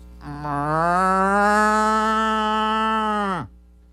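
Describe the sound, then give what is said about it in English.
A person imitates a cow moose call: one long, nasal, moaning tone lasting about three seconds, rising slightly in pitch, then dropping off abruptly at the end. Fairly loud. “It's a cow call or a moose grunt.”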